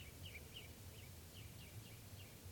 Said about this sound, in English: Recording, the birds are just perched here for a long time giving alarm calls to each other, and now they're giving chitter notes. I don't see bird number two, but I'm pointed at bird number one.